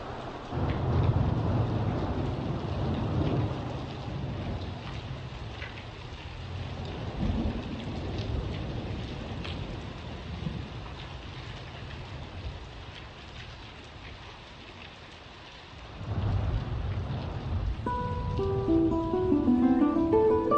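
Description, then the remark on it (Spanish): Steady rain patters and drums on the roofs of houses with gusty whistling wind and deep rolling rumbles, continuous throughout, while a faint melodic tone line joins near the end. “Solo se oía el silbido del viento y el repiquetear de las gotas de lluvia contra los tejados de las casas.”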